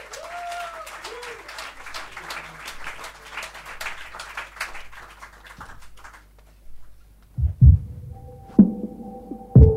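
An audience applauds with dense, steady clapping for several seconds, then it fades out and gives way to low, heavy thumps and sustained electronic tones.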